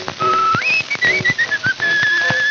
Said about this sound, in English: he whistled up the same familiar tune